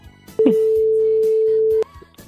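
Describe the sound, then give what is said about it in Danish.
A single loud, steady telephone ringing tone sounds for about a second and a half, heard over a phone line while calling, with faint voices murmuring in the background before and after. “og så lad os få ham med på telefonen.”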